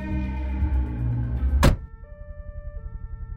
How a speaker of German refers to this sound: Das Auto hält an. Wir sind da.